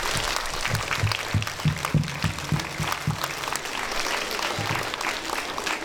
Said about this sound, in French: Mais vraiment, je crois que pour pas prolonger un petit peu parce que vous êtes tous en plein soleil. Je crois que vous pouvez tous vous applaudir très fort. Félicitations.